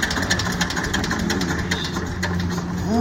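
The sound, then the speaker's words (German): A real tractor's engine runs steadily at idle, a low chugging rumble at a constant loud level throughout and no voices; the tractor is a stage prop at the Hermannshof. “also das ist hier ein leibhaftiger Trecker, Stammrequisit auf dem Hermannshof.”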